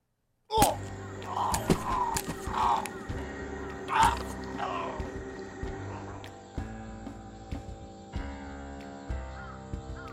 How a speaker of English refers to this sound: The first thing you hear is a punch that I made out of celery and punching my hand in two different ways.